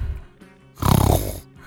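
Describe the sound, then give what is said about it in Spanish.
A single loud, rattling snore breath from someone asleep on a sofa, lasting about half a second, with a buzzing fluttery texture, followed by quieter background noise. “Ahí está roncando.”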